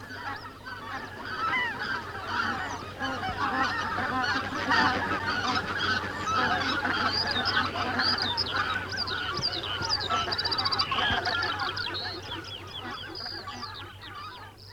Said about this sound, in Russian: Вот налетает одна из стай.